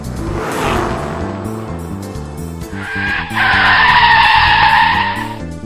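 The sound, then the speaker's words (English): A car engine roars, revving hard as the car races to a scene as fast as it can, then its tires let out a long, loud screech as it skids to a stop. “We raced to the scene of the sinister plot as fast as we could.”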